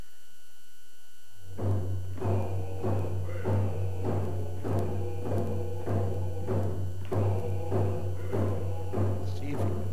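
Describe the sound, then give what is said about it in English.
After a brief silence, steady drumming in a video being played begins: evenly spaced beats about twice a second, moderately loud and slightly muffled, over a constant low hum as if played through a speaker. “You can hear the drumming.”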